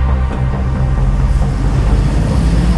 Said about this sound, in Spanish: Estamos esperando que pasen los autos. Y enfrente. La calle es una locura.